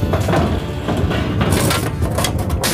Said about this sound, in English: knocked over a file cabinet. each fell into another cabinet, and into another, like dominoes.